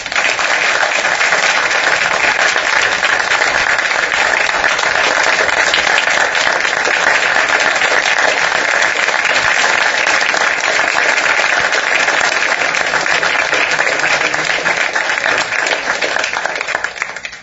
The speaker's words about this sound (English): And Justice Perrin, you might have missed it, but you just received a standing ovation.